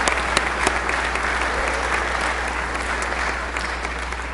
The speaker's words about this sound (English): I'd like to give a round of applause for our trustees. They're doing a great job at the church.